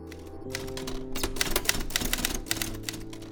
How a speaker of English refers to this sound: She uses a typewriter for most of her work.